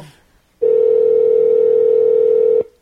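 A steady, loud telephone dial tone while calling a number holds a single unwavering pitch for about two seconds, then cuts off abruptly, with near silence before and after.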